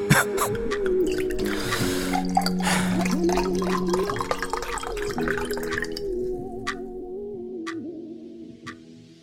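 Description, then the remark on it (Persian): Someone drinks a glass of water, with continuous liquid gurgling and a ringing glassy tone, ending in a few faint, sharp ticks. No one speaks. “یه دونه آب به من بدیم.”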